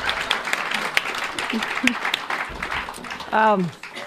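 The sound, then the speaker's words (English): An audience applauds in a dense, steady patter of many hands clapping at once, fairly loud throughout, with a brief voice rising over the clapping near the end. “So a round of applause for the human anus.”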